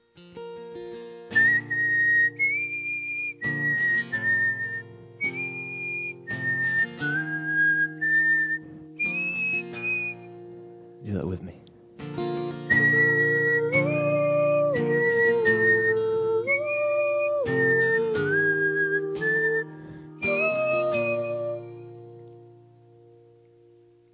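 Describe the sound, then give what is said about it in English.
A crowd whistles a bright, steady melody together, phrase after phrase, over sustained low accompaniment, with a brief spoken line breaking in midway. “If you know how to whistle, whistle with me.”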